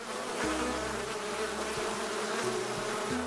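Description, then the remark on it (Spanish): A dense, continuous buzzing of honey bees, a steady droning hum with wavering pitch as many wings beat at once, holding at an even level for the whole few seconds with no voices. “Por lo tanto, recuerda, para que tus abejas crezcan fuertes y vigorosas, no tales el monte, porque ahí están las plantas estrella que le dan comida, salud y el gran distintivo a la miel yucateca.”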